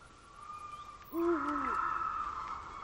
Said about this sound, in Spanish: Y el uhu del búho. El búho dice su nombre cada vez que habla